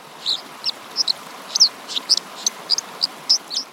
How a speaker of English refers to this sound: Birds that live along rushing streams tend to have really loud songs. So like the dipper, for example, has a really loud song, so you can hear it over the sound of rushing water.